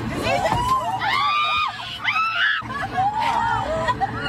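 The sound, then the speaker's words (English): Several passengers on an airplane where one or two pigeons had got loose scream and wail in high, rising and falling cries, mixed with bits of laughter and sobbing, over a steady low cabin drone throughout. “Nope, it's people on an airplane. Oh. It's a little bit of crying. It's a little bit of laughing.”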